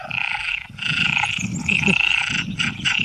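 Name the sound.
frogs croaking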